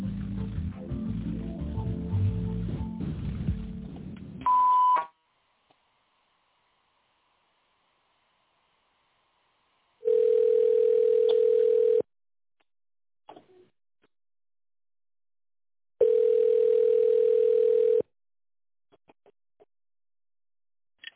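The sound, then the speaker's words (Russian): After a Russian-language automated company phone menu asks callers to dial an extension after the signal, a burst of harsh noise ends with a short high beep, followed by two long, steady, mid-pitched telephone ringing tones, each about two seconds, separated by silence. “Если вы знаете добавочный номер абонента, наберите его после звукового сигнала или дождитесь ответа секретаря.”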